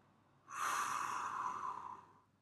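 A single slow, deep exhale through the mouth during a deep-breathing exercise, breathy and airy, rising quickly and then trailing off gently over about two seconds, with no talking.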